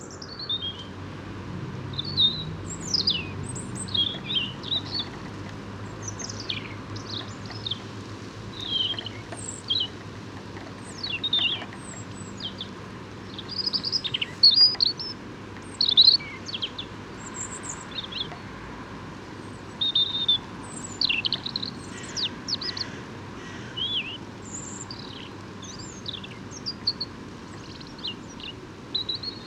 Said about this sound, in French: Donc chant très intéressant de rouge-gorge, en babille, en sourdine, et presque en continu.